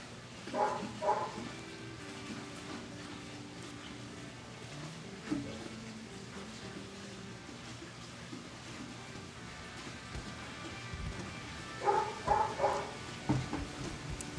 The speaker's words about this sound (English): So shut that dog up. Sorry. They're like kids. You don't train them right.